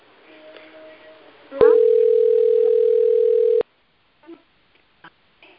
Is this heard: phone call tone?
yes